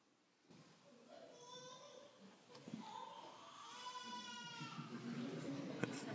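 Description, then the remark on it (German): A baby cries in long, wavering wails, one after another, loud, with a faint hiss beneath and no other sounds. “Dann kam er, ein Kind in der Krippe, vor Hunger schreiend.”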